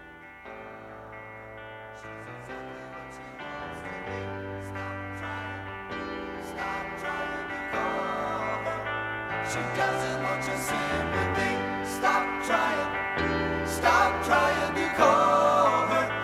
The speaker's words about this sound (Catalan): Escoltarem una cançó dels amics … titulada …